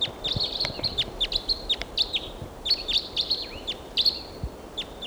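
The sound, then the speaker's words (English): Rapid, high-pitched chirps and tweets of wild birds coming in to decoys repeat in quick bursts throughout, with short rising and falling whistled notes over a faint low background hiss and no talking. “Here comes another wild bird.”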